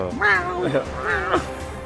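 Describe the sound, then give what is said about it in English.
A cat howls twice in long, wavering yowls that rise and fall in pitch, moderately loud, over a low background hum. “cat is howling right now.”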